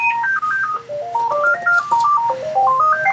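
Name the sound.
phone ringing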